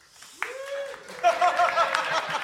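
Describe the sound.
A theatre audience at the Pleasance breaks into applause to vote on a case, the clapping swelling into a dense, lively patter after a rising vocal whoop, with scattered voices and cheers mixed in.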